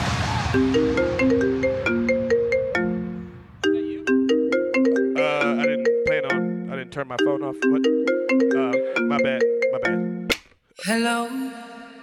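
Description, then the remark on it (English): A cell phone ringtone plays loudly, a bright electronic melody looping its short bouncy phrase several times before cutting off with a brief noisy burst at the end. “That wasn't really my phone.”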